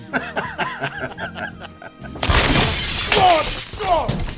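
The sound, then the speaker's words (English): A front door is smashed in: after a couple of seconds of snickering voices, a sudden loud crash of splintering and shattering bursts out, followed by continued clattering debris. “Gotta be more gentle on our front door.”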